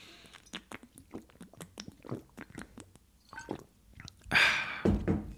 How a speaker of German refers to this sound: So, jetzt gibt's erstmal wieder einen klassischen After-Agentur-Rant, Schluck Wasser, bevor es hier weitergeht, ja?